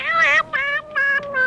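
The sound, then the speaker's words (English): A cat meows several times in quick succession, high-pitched and insistent, each cry short and loud, with no talking over it. “Lost cats who want their mama.”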